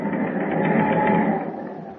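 A ship's engine runs with a dense, steady mechanical clatter, a fast rhythmic churning over a low hum, holding loud throughout and easing slightly near the end.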